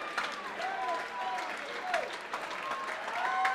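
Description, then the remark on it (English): A large sold-out concert crowd at the 9:30 Club applauds steadily, with cheers and several shrill whistles rising over the continuous clapping throughout. “And this sold-out crowd at the 930 Club is not going anywhere.”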